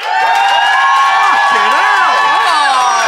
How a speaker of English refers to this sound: And if you think Brett and Ben won the day, then applaud now.